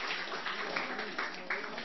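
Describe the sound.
A short burst of group applause for someone who has just said a short prayer, dense and steady clapping with a few sharper accents, lasting about two seconds, with some voices mixed in underneath.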